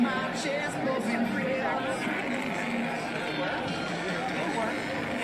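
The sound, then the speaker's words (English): A steady, garbled scrambler-like noise, a dense warbling hiss with a babble-like texture that never forms words, holding an even loudness for about five seconds, said to come from a 5G radiation tent or a Geiger-counter-type device held up to a woman's phone, detecting its signals. “Hear that scrambler type noise? I guess that's the tent.”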